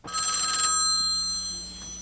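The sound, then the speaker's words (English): A telephone bell rings loudly in a single burst of bright, rattling tones, interrupting a bank robbery in a film scene with Al Pacino as Sonny, then fades into a steady ringing hum that lingers and slowly decays. No one speaks. “Here's a scene during the robbery, which is interrupted by a phone call, but not from the police, as Pacino's Sonny expected.”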